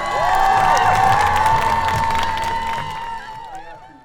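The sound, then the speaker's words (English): A large crowd at a water show cheers and shouts with delight as performers spring out of the water, a dense roar of voices with whoops and whistles rising over it, loud at first and then gradually fading away. “The flying sisters look a little panicked, but the crowd loves it.”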